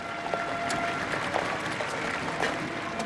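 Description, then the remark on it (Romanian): A crowd of several thousand people gathered at the side of a castle square breaks into spontaneous, sustained applause as Václav Havel's coffin passes on a gun carriage, a dense, steady wash of many hands clapping at once, with sharper individual claps popping out now and then, heard from within the gathering. “În momentul în care sicriul lui Havel, pe afet, a ajuns în dreptul celor câteva mii de oameni adunați într-o latură a pieței castelului, în marginea traseului oficial, mulțimea a izbucnit spontan în aplauze.”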